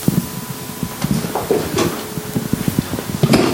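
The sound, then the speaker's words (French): A microphone being picked up and handled: muffled bumps, knocks and scraping rustles in an irregular burst, loud against the mic, with no talking. “Je vais prendre le micro comme ça.”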